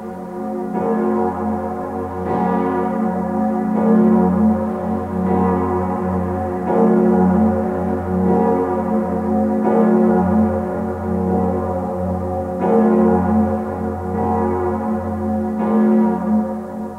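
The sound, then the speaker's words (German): A deep church bell tolls steadily, its strikes blending into a continuous resonant hum with rich overtones, loud and sustained throughout, with no voices present. “Eine Glocke ist eine Ruferin. Sie ruft die Menschen, kilometerweit.”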